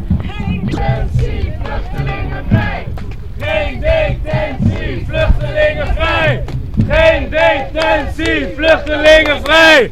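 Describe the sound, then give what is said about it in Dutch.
A large group of protesters marches past the AMC, chanting loudly in unison against detention and for freeing refugees, rhythmic shouted slogans repeating in waves with steady crowd noise underneath. “We lopen zo'n beetje voor de AMC langs. En het is een vrij grote groep mensen.”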